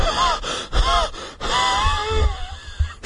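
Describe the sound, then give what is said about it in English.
Heavy gasping for breath, a quick series of ragged, partly voiced inhalations and exhalations, strained and uneven, with no talking. “There was silence now, except for Hannah's hard breathing.”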